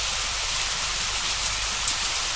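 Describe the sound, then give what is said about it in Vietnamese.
Heavy rain pours down during a thunderstorm with lightning over a village, in a steady, dense hiss, filling the space evenly with no breaks and no voices. “Mưa chút xuống và những giọt mưa sáng loáng như thép dưới ánh chớp che lấp hẳn những ánh đèn đang nhấp nháy một cách niềm nở trong thôn.”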